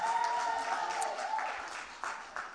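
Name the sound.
audience applauding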